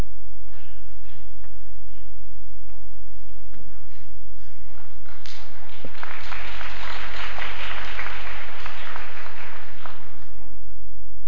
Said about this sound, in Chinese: 掌声拍得慢都是好的，有好过没有。